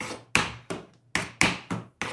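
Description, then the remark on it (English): Tap shoes bought from Amazon doing slow shuffles: seven crisp, bright metallic taps in an unhurried, slightly uneven rhythm, some close together in pairs, each ringing out briefly. No one speaks. “Listen to those shuffles. They're slow, but they're a shuffle.”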